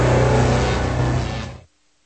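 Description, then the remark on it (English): A car engine hums steadily with low, rumbling tones and a droning harmonic pitch as it drives, then the sound cuts off abruptly after about one and a half seconds, leaving near silence. “could you pull over so I could buy some bottled water?”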